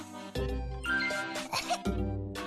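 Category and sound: human body sound, coughing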